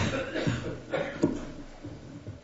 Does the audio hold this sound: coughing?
yes